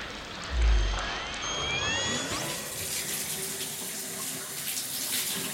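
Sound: cold water running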